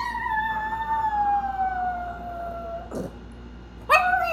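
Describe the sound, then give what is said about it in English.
Reggie, a 9-pound chihuahua, howls after her owner has left the house: a long, wavering, slowly falling wail, a brief pause with a short sniff, then a new rising howl. Fairly loud, with no one talking. “Reggie is this 9-pound chihuahua, and she has a lot of feelings about everything. So, like, this is what she sounds like after I've left the house.”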